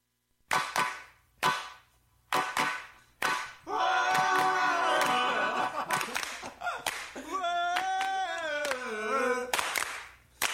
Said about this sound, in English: Hold the singing, just the hand claps.